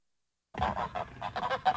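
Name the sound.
geese honking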